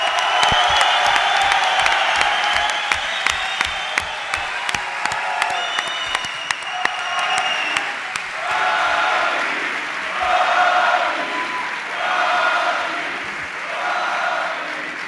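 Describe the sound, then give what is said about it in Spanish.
An audience breaks into sustained applause for Joaquín Sánchez, dense clapping with sharp individual claps early on, then swelling into cheers and whoops that rise and fall in waves toward the end. “Pido un aplauso para el hijo adoptivo del puerto de Santa María, Joaquín Sánchez.”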